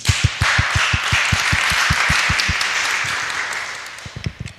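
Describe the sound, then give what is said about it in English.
An audience at a morning conference session about Mapathons breaks into applause to welcome the speakers: a dense wash of many hands clapping, with a few sharp, steady claps standing out on top, the whole crowd fading slightly toward the end. “Give them a big applause to start the day.”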